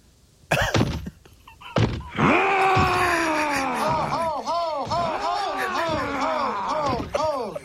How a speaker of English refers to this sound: Too slow? The guy's screaming. You didn't say that. It said Hulk running.